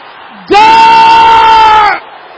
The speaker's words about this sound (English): It is dangerous to keep quiet. It is dangerous to pray quietly. It is dangerous not to be violent. Sir, powers! Stealing from my land. Can I hear you shouting this?